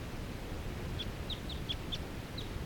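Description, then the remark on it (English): A lone wild bird perched in a fir tree calls rapidly, about six short, high-pitched chirps in quick succession, fairly faint over a steady low rumbling background. “This is that same bird that I was recording a minute ago. And that was lone and in the fir. Calling rapidly now.”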